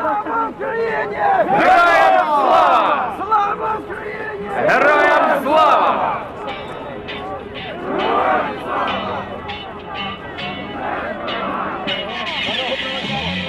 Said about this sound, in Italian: Quelle che sentiamo in sottofondo sono le voci delle piazze ucraine infiammate dallo scorso dicembre.